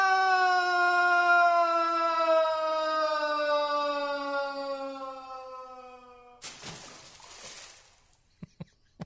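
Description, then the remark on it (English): A sound effect of someone falling down a well, from the Scary Sound CD: a long, loud scream that slowly drops in pitch, cut off by a sudden splash, then a few faint drips. “Here's Falling Down the Well from the Scary Sound CD.”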